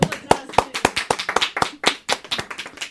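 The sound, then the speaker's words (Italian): A short burst of applause from a small group, with sharp, crisp hand claps landing in a quick, uneven patter at steady loudness for about three seconds, no voices. “Allora, bravissimo, un applauso.”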